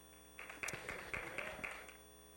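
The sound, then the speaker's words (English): A short burst of hand clapping from a group giving a hand clap of praise to Jesus, about a second and a half of overlapping claps, fairly soft over a low steady hum, then fading out. “If you love Jesus, give him a hand clap of praise.”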